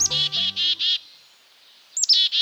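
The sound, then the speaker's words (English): A black-capped chickadee calls: a quick run of four buzzy, harsh 'dee' notes, a brief pause, then a sharp high chip followed by more rapid buzzy notes. “The image of this dapper black-capped chickadee frequently adorns holiday cards and bags of birdseed.”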